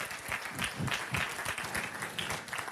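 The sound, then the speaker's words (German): At a church service in Nuremberg, the audience applauds each other steadily, many hands clapping in a dense, continuous wash of sound with no voices standing out, holding at an even level throughout. “Hey, wie wär's, wenn wir uns mal gegenseitig einen riesen Applaus geben?”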